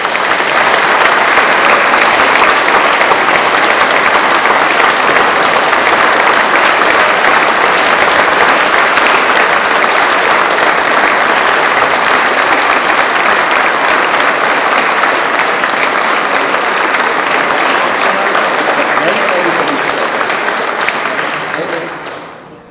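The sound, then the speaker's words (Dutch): Sustained, dense applause from a large audience, loud and steady for about twenty seconds before fading out at the end, given to thank someone leaving after 14 years. “Misschien wel nog een keer een applaus”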